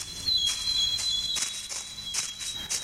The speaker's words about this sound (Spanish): Un ruido de pisadas en la hojarasca lo distrajo.